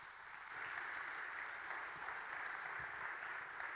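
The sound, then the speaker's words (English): A crowd breaks into steady, sustained applause to welcome a speaker, many hands clapping together in a dense wash of sound that rises quickly and holds evenly for several seconds, with no one speaking over it. “So would you guys do me a favor, give a nice warm round of applause and welcome”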